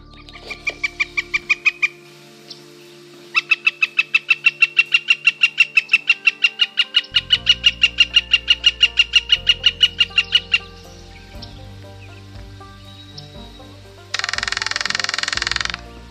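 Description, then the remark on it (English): A northern flicker calls in a long, rapid, evenly paced series of loud, sharp, high notes, like a jackhammer, after a brief opening burst, followed by a short hissing noise at the end. “That was the flicker, and or jackhammer.”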